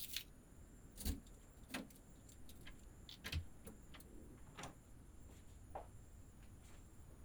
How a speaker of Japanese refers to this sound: さあ、ここが私たちがこれから二人で暮らす場所よ。新築ではないけれど、そこそこ新しめの一軒家。どうかしら？喜んでくれて嬉しいわ。じゃあ鍵開けるから、ただいまって言って入りましょう。